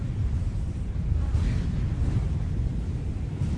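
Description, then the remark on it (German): A group of people imitate a storm together, a steady, dense rush of blowing and whooshing wind noises, fairly loud and continuous throughout, with a low rumbling roar underneath. “Es wurde immer stürmischer. Bitte macht alle Sturm.”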